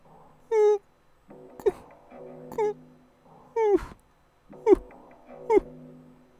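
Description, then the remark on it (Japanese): A high, eerie woman's sobbing comes in six short, choppy bursts of wavering cries, clear, each separated by brief pauses, with no talking over it. “とともに クククククッ と不気味な女性の泣き声が聞こえてくる。”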